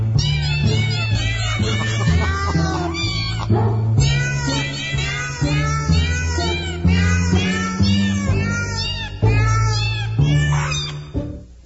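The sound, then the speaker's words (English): Many real cats meow continuously over nearly twelve seconds, their overlapping, wavering cries forming a loud, dense chorus with no pause between calls. “Those are real cats.”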